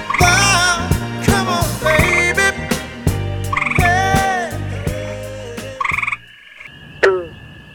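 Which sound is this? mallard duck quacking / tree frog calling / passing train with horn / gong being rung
tree frog calling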